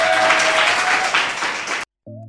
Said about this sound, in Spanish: Volve, gracias a vosotros. Un aplauso.